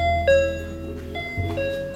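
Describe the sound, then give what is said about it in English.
An electronic door entry buzzer at a maternity unit in Coleraine, Northern Ireland, sounds in a few bright, sustained tonal pulses over a low background rumble, clear, with no one speaking. “If you come through the doors, you'll be faced with another two sets of doors, which you will have to buzz to gain access to the unit.”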